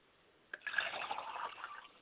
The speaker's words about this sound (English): I like to pour libation for my mother's spirit, and that her spirit will be present amongst those families today, that she may assist and guide and give them instructions of how to have a lifestyle in the home.